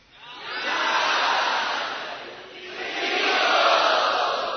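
A crowd of devotees roars and screams together in a dense, loud wall of voices that swells, dips briefly in the middle, then surges up again before tapering off.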